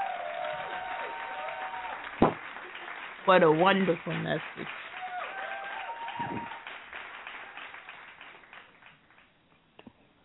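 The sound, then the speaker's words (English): An audience claps hands in praise in thanks for a message, a steady wash of applause running under a voice, with a couple of sharper bursts before it thins out toward the end. “and I do believe that that deserves a hand clap praise.”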